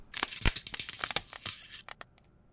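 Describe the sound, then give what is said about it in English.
Polystyrene cracking sounds layered together so they sound random and organic rather than repeated: a dense, irregular flurry of sharp snaps and crackles, bright and crisp, thinning out toward the end with a few isolated cracks. No voices. “Obviously, I had to layer all those cracking sounds to make sure they sounded random and, you know, not like a repeated sound again and again, but like something sort of organic happening.”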